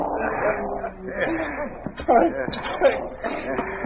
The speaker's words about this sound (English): Take this dog away.